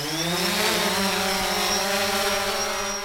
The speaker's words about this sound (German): Surrend hebt die Drohne mit ihren vier Propeller vom Boden ab. Unter der Drohne hängt eine Wärmebildkamera.